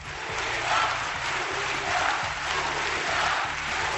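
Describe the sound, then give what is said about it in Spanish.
A large crowd of delegates at a Partido Popular party congress chants "unidad" (unity) in unison with a steady, rhythmic cadence, loud and continuous, mixed with a dense wash of cheering and clapping as they give a standing ovation to new party president Pablo Casado. “Le recibieron con la ovación de rigor, en pie, pero también con un cántico que incluía un primer mensaje.”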